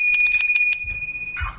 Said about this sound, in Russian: А колокольчик еще должен быть.